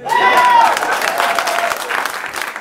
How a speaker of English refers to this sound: I'm done. Clap.